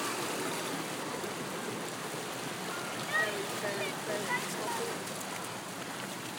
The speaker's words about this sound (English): The water drops off the edge of a almost weir-like cliff. Drops down. It also narrows, so the water is running much faster in general and much more in a much deeper channel.